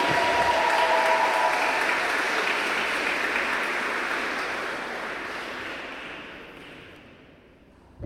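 An audience applauds after the workshops in a dense, steady wash of clapping that holds loud for several seconds, then gradually thins and fades out at the end, with no voices over it.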